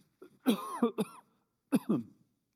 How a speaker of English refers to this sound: Excuse me, I'm going to cough.